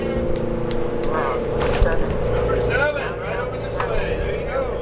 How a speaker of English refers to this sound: He says he can tell when the 7 arrives because its motor sounds different from the other buses that stop here.